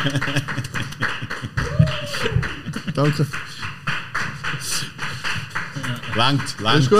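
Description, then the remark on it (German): A few people clap their hands in quick, uneven bursts to congratulate a team that became winter champions, while voices talk and call out over the clapping. “Jungs, Applaus.”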